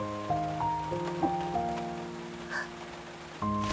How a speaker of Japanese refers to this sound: 傘はどうした？この雨の中、傘も持たずに歩いてきたわけじゃねえだろ？